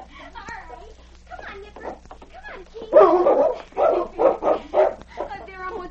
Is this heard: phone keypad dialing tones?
no